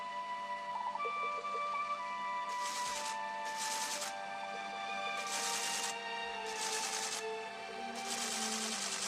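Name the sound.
printer printing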